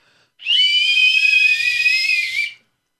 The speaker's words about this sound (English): We blew the whistles.